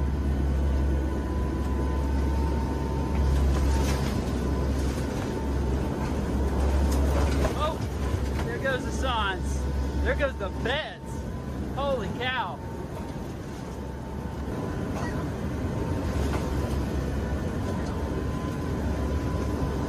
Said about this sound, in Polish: pokazuje turbulencje wstrząsające samolotem, który wleciał w huragan Ian.